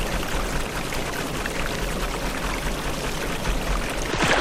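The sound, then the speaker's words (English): Steady rushing and splashing of river water in a video game after the player falls into the river, a continuous, fairly loud wash of churning noise with no pauses and no voices. “Alright, so I fell in the river.”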